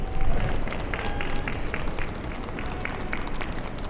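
A small crowd of a couple dozen spectators on the sidewalks claps and cheers steadily beside a road as runners pass, with scattered rhythmic claps over a continuous wash of street noise.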